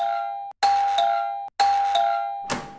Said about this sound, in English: We hear a doorbell ring at the residence of Zeke Lynn. And we see Penny standing outside, ringing it over and over.